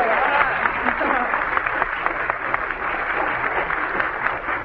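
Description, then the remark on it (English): Steady audience applause for a game show contestant who has just sung a tune, a dense wash of many hands clapping at an even, sustained level throughout, with no voices standing out. “Not only sings a tune, she brings her own applause.”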